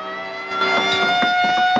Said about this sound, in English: Hearing the alarm from his office, Preem rushes outside.